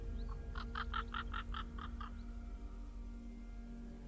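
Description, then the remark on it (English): A quick run of about eight short, evenly spaced bird calls chirps over a steady low background hum, then trails off, leaving just the hum. “A bird.”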